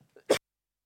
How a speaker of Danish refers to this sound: Nu skal jeg lige hoste, så skal jeg lige her.